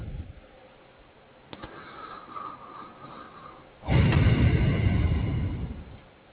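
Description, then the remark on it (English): A click, then a single steady voicemail beep lasting about a second over low phone-line hiss, followed by a sudden burst of loud rumbling, crackling noise. No one speaks. “At the tone, please record your voice message.”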